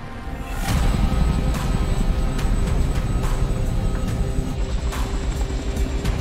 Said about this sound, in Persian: سرهنگ، هلیکوپتر داره سرعتش رو کم میکنه.